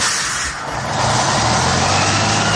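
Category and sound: vehicle, bus engine running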